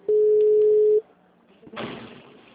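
A telephone ringing tone from an outgoing call placed by a Santander caller sounds once as a steady, loud, low-pitched hum lasting about a second, then cuts off; after a short quiet gap, a rush of hissy line noise follows.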